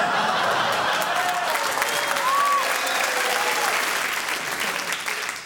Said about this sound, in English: Oh, he got so many rounds of applause in that thing. Give him an extra bonus point for what he did, because the audience applauding endorses that.